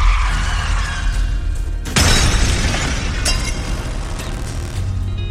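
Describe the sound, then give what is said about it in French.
A car is braked hard and crashes, a gun flying through the car and two men inside injured: the car rumbles along, then a sudden loud crash hits with a burst of shattering and clattering debris. A second sharp impact follows as the noisy rumble continues. No one speaks. “Henri freine brutalement, faisant voler une arme à feu à travers la voiture.”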